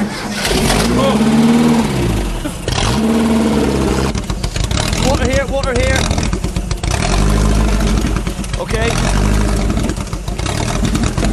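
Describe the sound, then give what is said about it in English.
A boat engine roars loudly and steadily, its pitch rising and falling as it revs up several times, with people speaking briefly over the din. “Right, do some more revs.”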